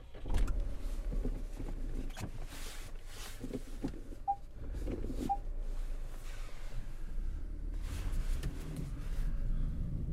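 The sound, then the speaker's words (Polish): A car rolls slowly in reverse with a steady low engine and tyre rumble, while a parking sensor gives two short, clear beeps about a second apart. No one speaks. “A to z kolei auto, które ma czujniki cofania. I nic poza tym. To jedziemy.”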